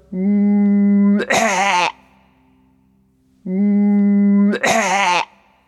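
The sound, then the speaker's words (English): Two loud, theatrical coughs a couple of seconds apart, each starting with a held humming voice tone that breaks into a rough, harsh burst, like a person acting out a cough. “Because I've got a cough too, you know.”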